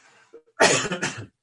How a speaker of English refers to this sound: But excuse me while I cough just before that.